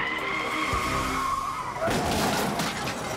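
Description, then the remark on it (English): A suspect's car being chased by police skids on a blown tire, running on only three tires: a sustained high-pitched squeal for about two seconds, then a loud, harsh grinding rush of scraping noise that carries on steadily to the end. “He's got a blown tire, and now units are moving in.”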